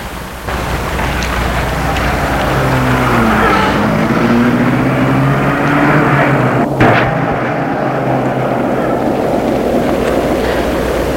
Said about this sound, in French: Et le chauffeur rentre dans la voiture et la met en route.